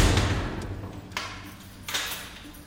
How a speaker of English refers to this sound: The door is slammed shut and another day is over.